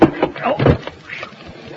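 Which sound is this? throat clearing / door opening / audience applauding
door opening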